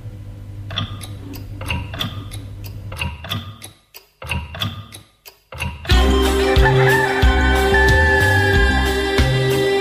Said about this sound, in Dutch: Maar luister, nu komt de klok er zo aan. Als je nog even wacht, dan hoor je hem.